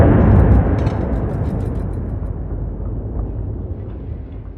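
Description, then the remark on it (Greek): A loud explosion on a factory's main production line booms at the start, then a heavy low rumble lingers and slowly fades over several seconds, with scattered crackling debris on top. “Δεν πρόλαβα να τα ακουμπήσω απάνω στο τραπεζάκι και ακούστηκε μια τρομερή έκρηξη η οποία έγινε στην κεντρική γραμμή του εργοστασίου με αποτέλεσμα να κουνηθεί όλο το εργοστάσιο και μέσα σε λίγα δευτερόλεπτα έγινε και άλλη μία.”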